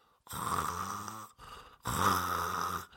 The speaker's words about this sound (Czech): Vrchní sestra pořád ještě spala na židli, hlavu opřenou o stůl a chrápala.